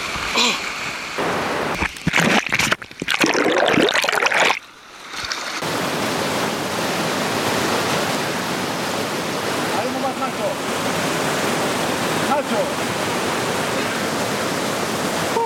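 A cold river current rushes past the legs of a person wading across it, starting with choppy, uneven bursts of splashing, then settling into a loud, steady roar of water.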